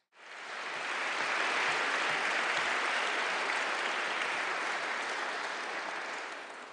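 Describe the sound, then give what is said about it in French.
Sustained applause from an assembly for prize laureates asked to stand, a dense steady wash of many hands clapping that swells quickly and holds evenly for several seconds before beginning to taper. “Je demande très simplement aux lauréats de bien vouloir se lever et je demande à l'Assemblée de bien vouloir l'applaudir.”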